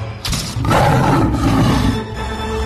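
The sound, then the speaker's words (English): A tiger roars loudly, one long rumbling, growling roar that swells after a brief start and holds for a couple of seconds, with no voices. “Out popped the tiger, and seizing the poor man, cried, What a fool you are!”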